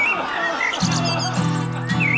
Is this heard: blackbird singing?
yes